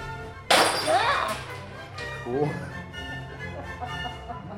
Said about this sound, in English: you pick out like a milk crate's worth of breakables. And then you take them into this little room and close the door and you smash them.